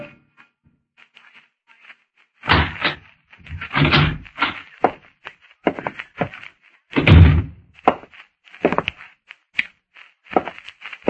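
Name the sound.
door opening and closing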